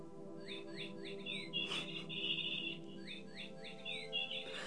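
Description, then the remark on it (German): A bird chirps in quick repeated bursts of high, bright notes, pausing briefly before another run, over a steady low hum with no talking. “Okay, ich muss gehen, sagt der Vogel.”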